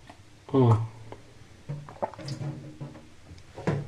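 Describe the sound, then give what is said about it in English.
Someone drinks water from a bowl: a loud wet slurp first, then several quieter gulps, swallows and breathy sips over a few seconds. “I haven't done dishes yet, so I'm drinking water out of a bowl.”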